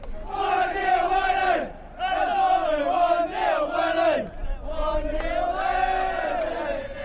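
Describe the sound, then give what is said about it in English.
A loud crowd of football fans chants and taunts each other in a stadium, many voices roaring sustained sung phrases in unison, broken by two brief pauses before the chant surges again. “The fans were taunting each other, and without the police presence, violence would have been inevitable.”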